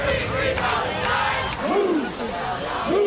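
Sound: protesters shouting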